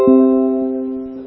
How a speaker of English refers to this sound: Oh, that's just a doorbell or something.